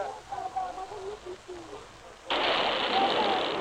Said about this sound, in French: Oh, les Allemands viennent de tirer sur la foule qui entoure les chars depuis la place de la Concorde. On a senti le souffle de l'obus sur le visage. Oh, les gens se couchent, se cachent.